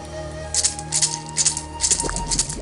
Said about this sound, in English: She shakes her maracas towards the cauldron.